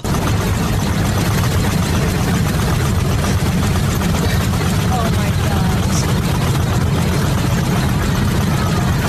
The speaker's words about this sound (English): He's got a diesel engine. Sounds like a diesel.